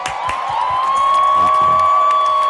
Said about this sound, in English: Connery, add applause effect, please.